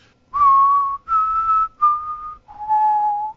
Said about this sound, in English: Can you whistle the Hunger Games little Mockingjay whistle? Yes. Okay. Do it for me.